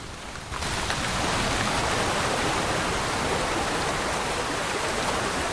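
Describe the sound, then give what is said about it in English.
Torrential rain from a storm pounds onto the open water of a Highland loch in a dense, steady roar of countless drops, loud, starting abruptly after a brief quieter moment and continuing unbroken, with no voices. “The rain pounds the water relentlessly”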